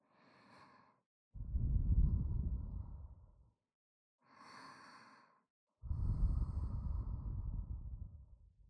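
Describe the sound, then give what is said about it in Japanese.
Slow, warm, breathy exhales blown into the ear: two long, airy, low-rushing breaths, each preceded by a short hissing inhale, with brief silences between and no talking. “温かい吐息が耳に。”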